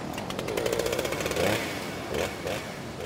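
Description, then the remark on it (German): A chainsaw roars as it cuts into a tree that fell across a road in a storm with strong wind, worked by an emergency crew answering a call. Its rapid buzzing engine rises and dips in pitch over a few seconds, loud and continuous with no voices. “Die Motorsäge.”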